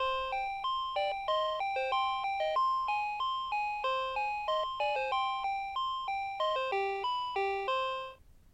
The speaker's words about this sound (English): Press a number to play a melody. I'm going to press 10 now it's said that. 10.